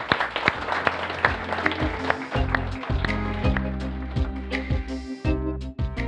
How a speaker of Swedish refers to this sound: En applåd.